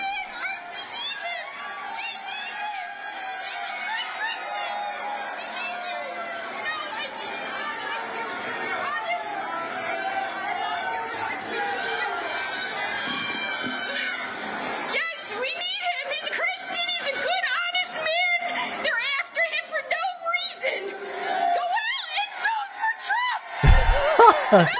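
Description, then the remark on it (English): A crowd at a rally boos and jeers Trump in a dense, continuous roar of overlapping voices, swelling louder in the second half with sharp shouted bursts near the end. “Just a complete bedlam. The crowd is all booing.”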